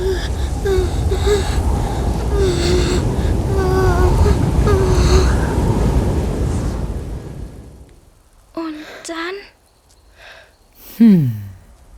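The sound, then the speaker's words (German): Strong, roaring wind with whistling, wavering howls blows steadily in a snowstorm for several seconds, then dies away, leaving a few brief vocal sounds in the quiet. “Der Schnee stürmte wild und kalt wehte der Wind.”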